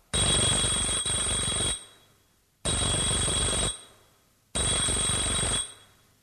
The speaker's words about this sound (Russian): Идет по улице, заходит во двор. Звонит Кашиным 3 раза.